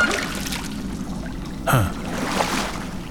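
A single sharp splash of water rises out of a steady wash of background noise, followed by softer sloshing as someone moves through the water and scoops up a tiny person in one hand.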